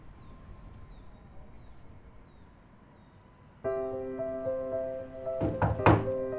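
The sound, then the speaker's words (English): A doorbell chime rings out partway through as someone is at the front door, its sustained tones hanging in the air, followed by a couple of heavy thunks near the end, with faint repeated chirps in the background. “Yes, Rexa, I know what a doorbell means.”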